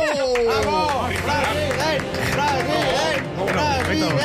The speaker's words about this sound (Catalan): Aplaudiu, home! No, ja són uns aplaudiments gravats.